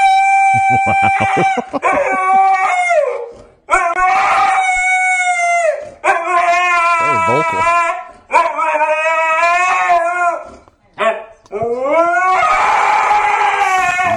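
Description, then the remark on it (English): A husky dog screams and howls in long, loud, warbling bursts, its pitch sliding up and down with brief pauses between wails, intense throughout; a clip posted by Paul F. Tompkins. “He posted a screaming husky.”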